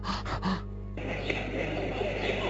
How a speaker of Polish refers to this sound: oddycha tak